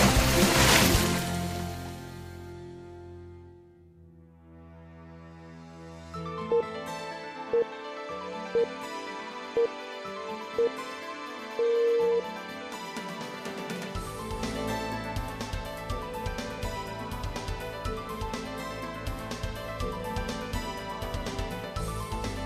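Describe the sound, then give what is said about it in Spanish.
Five short, evenly spaced beeps at a steady mid pitch, then a longer final tone, the classic radio time signal pips marking 11:30 in the morning on Spanish radio, sounding over a soft musical bed that swells afterward. “A las 11:30 de la mañana escuchamos esas señales horarias que nos indican que va pasando el tiempo”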